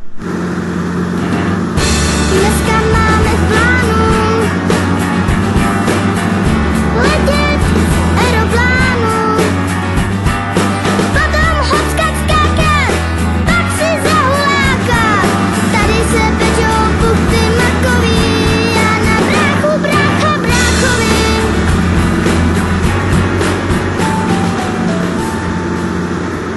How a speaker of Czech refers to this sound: Na Blansko vrtulník vlastně nám pěkně vrčí, takže ty sleduješ v mapě, co vlastně všechno máme kolem sebe a podle toho řídíš vrtulník směrem na Blansko